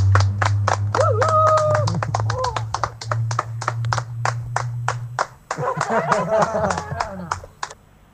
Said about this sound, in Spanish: Un aplauso para todos.